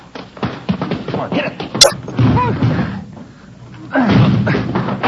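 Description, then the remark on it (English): Heavy, muffled thuds of a body slamming into a front door blocked by something piled against it, repeated several times at uneven intervals, loud, with people's voices talking over the impacts. “Come on, hit it again. Yeah, all right. Come on. They got it blocked or something. Something piled against it.”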